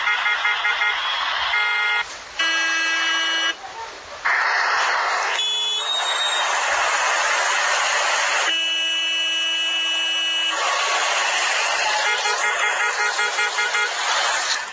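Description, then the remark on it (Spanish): Car horns honk repeatedly in a traffic jam on Séptima at Calle 85, where cars heading uphill back up more than two blocks; several long, loud blasts overlap and alternate with shorter beeps over a steady background of idling engines and street noise. “sobre la séptima con calle 85, el trancón de los carros que suben a esa hora puede ocupar más de dos cuadras, incluso en horas pico y sobre el mediodía.”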